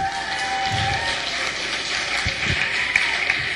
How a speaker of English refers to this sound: A little applause.